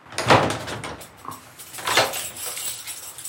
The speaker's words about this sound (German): Um dem Erfolg auf den Grund zu gehen, mache ich mich auf nach Leipzig. Nachmittags klopfe ich an eine Kirchentür.